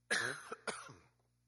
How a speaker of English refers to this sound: That'll give me time to cough.